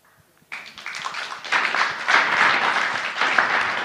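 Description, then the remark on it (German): An audience breaks into applause at the end of a panel discussion, thanking the panelists on the podium, after a brief quiet moment, the clapping starting abruptly and swelling into a dense, steady wash of many hands that stays loud to the end. “Sie klatschen.”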